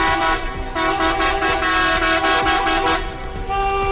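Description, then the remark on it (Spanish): Horns of 42 driving school cars honk together in a loud, continuous chorus through the city streets of Ávila, Spain, protesting a shortage of driving examiners and long waiting lists; overlapping sustained blasts with some pulsing toots over the low rumble of traffic, with no one speaking. “No son tractores, ¿eh? Son coches de autoescuelas, todas las que hay aquí en la provincia de Ávila.”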